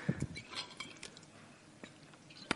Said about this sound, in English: I might have some water first, actually.